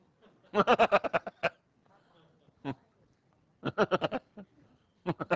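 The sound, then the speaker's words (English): Sheep bleating in two wavering, pulsing calls separated by a pause, with a few shorter bleats in between and at the end, fairly loud against a quiet background. “Did you have a smart sheep, did you?”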